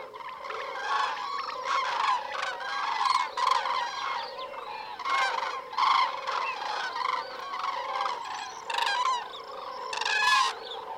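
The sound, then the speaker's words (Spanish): A noisy, continuous clamor of many honking birds from large migrating flocks in Cabañeros, calls overlapping in dense bursts that swell and fade, fairly loud and sustained throughout with no talking. “Durante estos días, el griterío de estos numerosos bandos, a veces casi un estruendo, se podrá escuchar en cualquier rincón de Cabañeros.”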